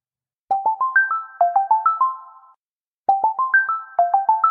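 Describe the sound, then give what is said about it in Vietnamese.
A phone ringtone of an incoming call, just after stepping out of an office, plays a bright, stepped electronic melody in two bursts of about two seconds each, separated by a short pause. The tones are clear, with no voices. “Vì ngay khi mà vừa mới bước ra khỏi văn phòng ACG thì mình nhận được một cuộc điện thoại”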